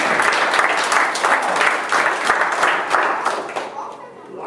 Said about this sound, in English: Yeah, that's a wonderful hand of applause.